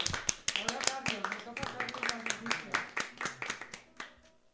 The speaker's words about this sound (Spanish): un aplauso para la familia de Antonio